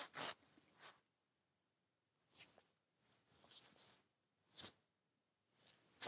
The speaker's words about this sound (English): Oh, sir, wait, just let me get the zip.